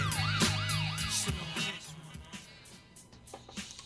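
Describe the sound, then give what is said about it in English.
A phone ringing with a loud electronic warble that rapidly rises and falls for about a second and a half, then stops, leaving a low hum and faint clatter. “Stop making you guys listen to ringing.”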